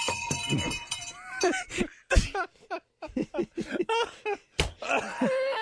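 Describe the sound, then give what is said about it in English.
A handheld bell clangs and rattles with sustained metallic ringing and sharp jangling hits, as if tossed about, followed by bursts of laughter and excited voices. “It may sound like I'm throwing this bell.”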